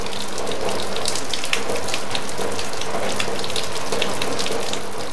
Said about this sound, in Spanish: Lluvia y lodo apagan todo. Los humanos murmuran y el agua grita.